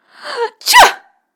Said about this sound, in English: That was the biggest and loudest sneeze yet.